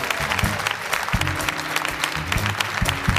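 Steady applause from a studio audience, a dense wash of clapping hands that continues without a break, moderately loud, with a low tonal hum running underneath.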